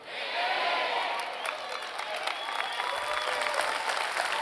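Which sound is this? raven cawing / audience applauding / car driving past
audience applauding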